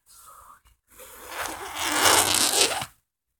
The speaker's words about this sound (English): Here. Help me slide into this. Can you get the zipper on the side?